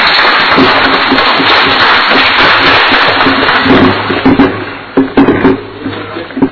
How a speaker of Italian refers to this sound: Lo fate voi e quindi io propongo ai consiglieri comunali di fare a loro un applauso perché se lo meritano.